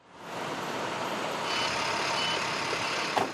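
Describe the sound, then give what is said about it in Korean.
A large truck loaded with fresh farm vegetables arrives at an office building in New York City in the early hours of a Friday. Its engine rumbles steadily and fills the scene. A faint high-pitched reversing warning tone creeps in partway through, and there is a brief clunk near the end. “그리고 금요일 새벽 큰 트럭에 신선한 채소를 가득 싣고는 대도시의 복잡한 도로를 지나 윈스턴 앤 스트론 법률회사 건물에 도착하지요.”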